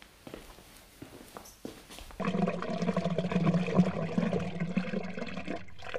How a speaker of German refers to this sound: Wahnsinn, diese Technik, zu der Zeit schon eine Klospülung.